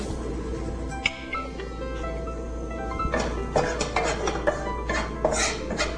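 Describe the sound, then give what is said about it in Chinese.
Shallots and minced garlic stir-fried in a pan with a little oil to release their aroma for a Thai dish: a steady sizzle, with a spatula scraping and clinking against the pan in quick irregular strokes during the second half. Nobody speaks. “那首先呢，我们要做的就是要爆香这个红葱头哦，跟这个蒜末。”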